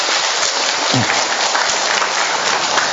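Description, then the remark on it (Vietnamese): A crowd claps loudly and steadily for the presentation of a donated wheelchair to a woman who cannot walk, a dense wash of many hands applauding at once without pause. “Chúng ta một tràng pháo tay thật lớn thưa anh chị em.”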